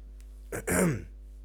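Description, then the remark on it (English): A single short, fairly loud sneeze from a person with hay fever and a chest infection, a quick sharp burst that trails off into a falling voiced tone, against a faint steady background hum. “I've got like hay fever, I've got chest infection, I'm sneezing.”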